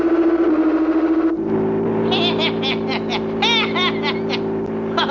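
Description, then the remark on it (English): A car engine drones steadily and loudly during a chase, its pitch stepping up slightly early on, while warbling, chirpy high tones flutter over the engine noise in the second half. “This car's as good as ours. He's on our tail.”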